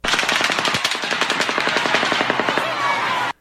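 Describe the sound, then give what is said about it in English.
Rifle rounds from the Las Vegas shooting crack against pavement in a dense, rapid barrage, blending into sharper distant rifle reports; loud, continuous bursts for a few seconds, then an abrupt stop. “Here's the gunfire hitting the pavement, followed by the rifle reports from the distance.”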